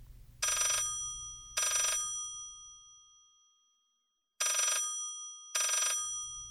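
A telephone bell rings loudly in two double-ring bursts, each pair of short metallic trills separated by a brief silence, over a faint low hum.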